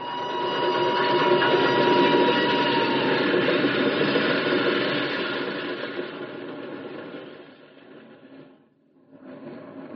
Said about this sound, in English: The rails are humming. Here, put your ear down here. Train. Wind's behind us. Can't tell how close it is.